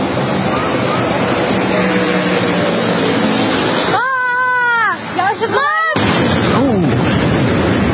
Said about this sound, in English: But that was a decent-sized explosion. That was bigger than the ones that we've seen from these other little attacks. It's pretty decent.